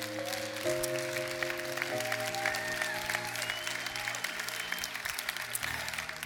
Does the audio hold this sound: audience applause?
yes